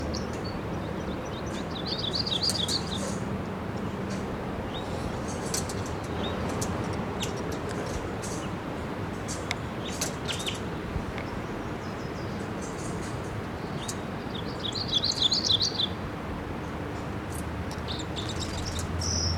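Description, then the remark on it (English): Red crossbill chittering calls from a red male in a ponderosa pine above a nest, about 50 feet up, at a camp: two bursts of rapid, high-pitched chatter separated by scattered short chips, fairly faint over a steady low background hum, with no voices. “crossbill fly in here, and I hear it chittering in the camp.”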